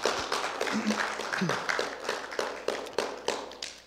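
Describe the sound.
An audience applauds, a dense, steady wash of many hands clapping that holds for about four seconds, with a few sharper claps standing out and faint voices murmuring underneath.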